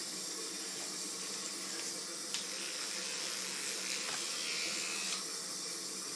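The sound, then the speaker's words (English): A battery-driven toothbrush is switched on and buzzes steadily, a bright hissing whir, with a couple of brief knocks as it is dropped partway through. No one speaks. “That was a battery-driven toothbrush turned on, dropped down, and...”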